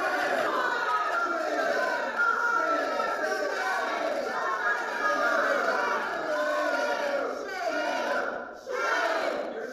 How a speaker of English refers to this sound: Now, Susan Collins, as I said, was booed at her town hall. Not really a town hall, but at a public event. Here's how it happened.